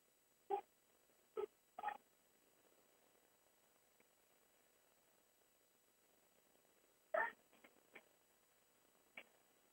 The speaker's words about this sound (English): I closed the door. Lenny was barking. Our dog Lenny was barking inside. So now, still hear him, but less.